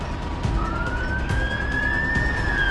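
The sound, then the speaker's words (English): A fire truck siren wails as it rushes by on a street in Washington, its tone sliding upward over a constant rumble of street traffic. “Officers hurry down a street, and a fire truck rushes by.”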